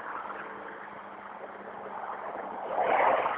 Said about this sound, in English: I'm assuming you heard that low-flying plane. It literally went right over my head.